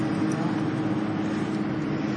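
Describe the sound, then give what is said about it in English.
A motorcycle engine rumbles steadily, a loud, even drone with no clear rise or fade over the couple of seconds, and no voices over it. “Motorcycle. What's that? I said motorcycle.”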